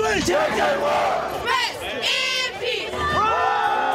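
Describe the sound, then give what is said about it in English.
A loud crowd of parents and fans cheers and yells continuously at a Friday night high school football game in Sacramento, California, as players race on and off the field, with overlapping shouts and whoops rising and falling in sustained waves of excited noise. “Cheering parents, excited fans, players racing on and off the field.”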